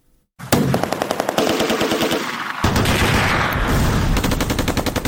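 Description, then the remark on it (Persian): Rapid bursts of automatic gunfire crack out continuously, one volley after another, loud with a dense echoing wash behind them, as mujahideen groups enter Kabul, Afghanistan, on 8 Sawr 1371 (1992), the shooting partly from fighting between mujahideen groups and partly in celebration of victory. “بخشی از تیراندازی ها از جنگ میان گروه های مختلف مجاهدین حکایت می کرد و بخش دیگر هم از شادیانه به مناسبت پیروزی.”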